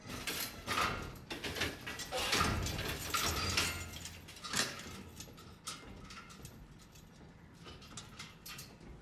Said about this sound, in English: He unlocks the barred door. They file in. He shuts the door.